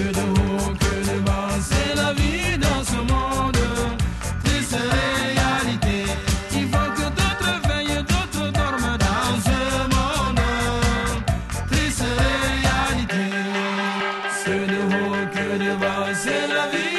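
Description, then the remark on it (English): Upbeat, densely layered dance music plays loud and steady throughout, with a driving beat and bright melodic lines; near the end the bass drops out briefly before the groove continues. No one speaks. “It is completely addictive dance music.”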